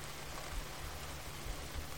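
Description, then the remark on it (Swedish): Steady rain patters softly on a surface, a dense, continuous hiss of drops with no voices, fairly quiet and even throughout. “Någonstans där du kan höra regnets smatter.”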